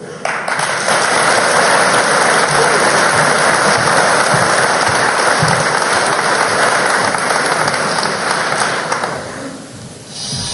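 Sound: audience applause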